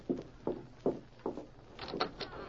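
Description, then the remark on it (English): Four steady, heavy footsteps approach, followed by a brief rattling clatter of a latch as a door is opened, with no voices. “He's coming to the door. You answer it.”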